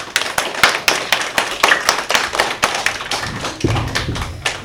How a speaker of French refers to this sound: Aujourd'hui dans Bubble Game, nous accueillons les élèves de CE1 de l'école Paul Langevin. Bonjour à vous les élèves, bienvenue. Bonjour. On peut les applaudir.